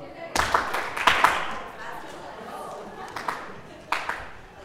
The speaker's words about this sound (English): And the kids and teachers sing, we will go. We go. And then we have a clapping part.